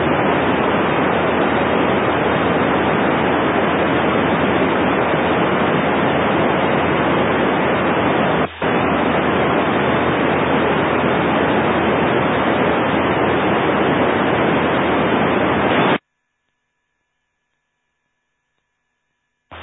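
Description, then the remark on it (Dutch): Loud, steady static hiss from a radio repeater, carrying no modulation, voice or signal, running about sixteen seconds with one brief dropout midway, then cutting off abruptly into silence before a short click. “Gaf een hoop bruis op te repeteren, maar er zat geen modulatie op.”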